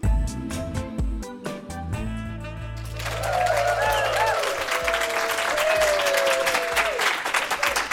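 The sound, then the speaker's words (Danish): A short musical jingle ends and a live audience of about 30 general-practice staff (midwives, nurses and others) at a course on weight-neutral health breaks into loud, sustained applause, a dense wash of clapping that keeps going with a few voices or cheers mixed in. “Tusind tak, og som I kan høre her, så er Radio Ligevægt den her gang indspillet foran et live-publikum i forbindelse med et kursus i vægtneutral sundhed.”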